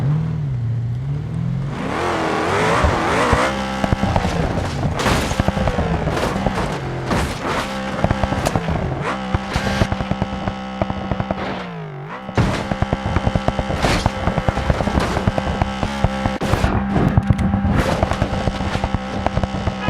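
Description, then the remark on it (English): A video game car engine drones loudly, then a long series of sharp crashing impacts and clattering bangs as it tumbles off a cliff, the engine briefly dipping midway before roaring on. “You drive the car off the cliff.”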